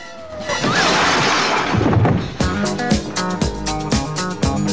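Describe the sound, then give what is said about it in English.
A loud, messy crash as a girl in a bar brawl is thrown along the bar and slams into a jukebox, followed about two seconds later by upbeat music from the jukebox suddenly starting up with a steady, punchy rhythm. “She crashes into the jukebox.”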